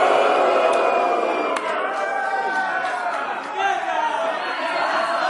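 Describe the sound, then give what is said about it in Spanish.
A large audience boos two friends of Carlos Areces together in a sustained, droning wave of low voices that holds steady for several seconds, with scattered shouts and whistles rising above the din. “¿Abuchear o aplaudir? Pero decidir. Abuchear.”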